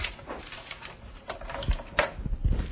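A pen that has run out of ink scratches and taps dryly across a surface in short, uneven strokes, fairly quiet, with no one speaking.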